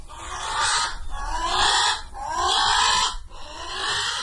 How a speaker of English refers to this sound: Today, Hawaiians can once again hear the calls of more than 100 Hawaiian crows, or alala, as they are called there, but only in aviaries.